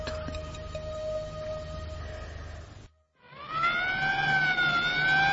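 An ambulance siren sounds loud, holding a steady tone, cutting out for a moment, then returning as a rising, wailing sweep, as the ambulance pulls up to a house on Merzlyakovsky Lane. No one speaks.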